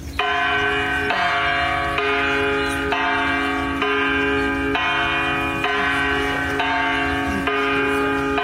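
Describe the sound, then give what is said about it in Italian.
A large hanging bell, part of artist Florentina Holzinger's work at the Biennale, rung every hour as a climate alarm, rings loudly and steadily, struck about once a second, each deep clang blending into a continuous, shimmering resonance with no voices present. “Lì alla Biennale suona la campana.”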